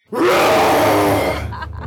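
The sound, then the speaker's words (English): A person lets out a loud, drawn-out imitation of a threatening roar, a rough, growling vocal burst sustained for over a second before trailing off into breathy rasps. “then puff up your chest, make your arms wide, and definitely give as loud and as threatening a roar as you can. Can you do your best roar for me?”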